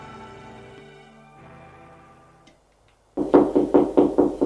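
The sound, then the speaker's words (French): Soft music fades out into a brief silence, then a quick series of about five firm, loud knocks on a door, evenly spaced and sharp. “On frappe à la porte.”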